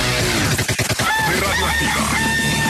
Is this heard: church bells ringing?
no